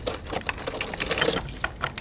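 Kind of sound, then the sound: household object, door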